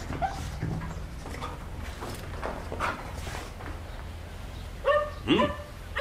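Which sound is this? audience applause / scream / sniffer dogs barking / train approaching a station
sniffer dogs barking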